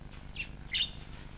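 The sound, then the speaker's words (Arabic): A great bustard, one of the largest birds in the world and living in Russia, gives two short, high, squawky calls in quick succession over a steady low background rumble. No one speaks. “يعتبر طائر الحبارة الشرقي من أضخم الطيور في العالم، رغم أن اسمه يعني بالإنجليزية الطائر الذي يمشي.”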